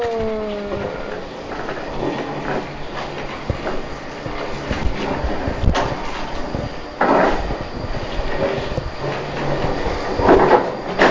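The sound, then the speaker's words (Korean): A small wheeled cart rattles and clatters steadily as it is pushed along, with uneven clacks and bumps over about ten seconds, moderately loud, with no talking. “덜컹덜컹 소리도 나네, 수레에서.”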